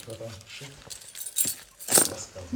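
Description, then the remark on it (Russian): A lecturer empties his pocket, full of keys, a handkerchief and a mobile phone, and the keys jangle and clink in short bursts, with bright metallic rattles standing out near the middle and end, mixed with the man's speech. “Вообще у меня в кармане тут куча какого-то барахла.”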